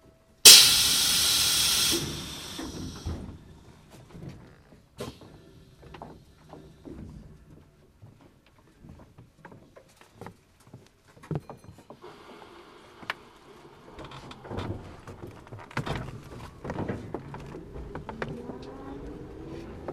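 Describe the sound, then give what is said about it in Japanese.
A bus or train exit door in Japan closes with a sharp burst of pneumatic hiss, followed by scattered clunks and rattles as the vehicle rumbles and creaks on toward the next stop, Miyanosaka. “出口の扉先に閉まります。”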